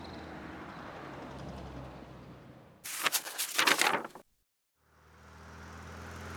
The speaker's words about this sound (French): Sur le pont, il y a plein de camions.